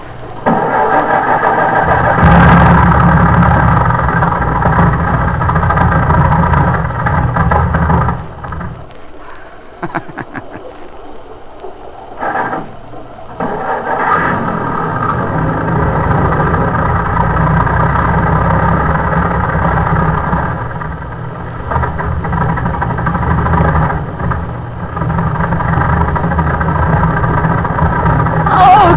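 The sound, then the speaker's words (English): A large bus engine idles with a loud, steady low rumble, briefly dropping away and sputtering midway before roaring back up and running on to the end, as the bus sets out to drive through a flooded area. “We're going to drive out. This bus hasn't failed me yet.”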